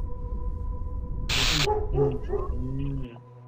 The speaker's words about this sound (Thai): หมาคงเห็นคนละมั้งเดินผ่านมันก็หอนปกติแหละ